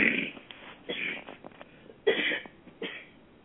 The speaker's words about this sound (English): No, I was coughing that time. Shoot, I didn't light a cigarette.